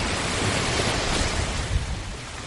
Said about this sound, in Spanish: A unos 8 kilómetros, muy cerquita del aeropuerto y casi escuchando las olas del mar, se encuentra Guadalmar, un barrio del extrarradio de Málaga.